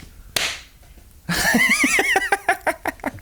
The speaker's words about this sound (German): Wenn ich es dir sage, dann wirst du dir vor die Stirn klatschen und zwar so, dass man das auch im Mikrofon hört.